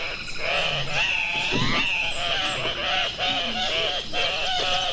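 Andean cock-of-the-rock calls: a steady, loud chorus of harsh, nasal squeals and grunting cries that overlap and waver up and down, with no voices.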